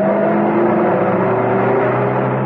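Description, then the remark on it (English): A large saloon car's engine hums steadily as it drives along an open road stirring the dust, with Baron von Kurt behind the wheel and Emma Peel alongside him, a continuous droning motor with a low tonal whine, with no voices. “A short way away, a large saloon car was stirring the dust from the open road.”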